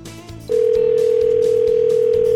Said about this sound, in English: So let's dial up the phone here and call Hardcore Outfitters in Iron Mountain.